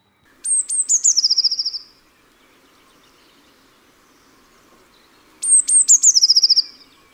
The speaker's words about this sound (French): Maintenant, place à l'élégante mésange bleue.